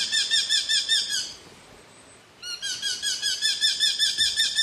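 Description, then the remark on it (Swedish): A Eurasian hobby falcon gives rapid, rhythmic series of sharp, high-pitched kew-kew-kew notes, pausing briefly after about a second before resuming the same loud, repeated calling. “Och när vi pratar rovfåglar som påminner om hackspettar så måste vi nämna lärkfalken också.”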